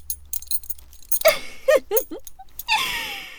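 Close metallic jangling and clinking as a collar is fastened: a few quick rattling bursts, then a longer ringing jingle toward the end, with no one speaking.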